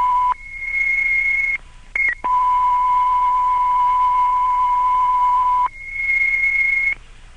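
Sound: radio dispatch alert tones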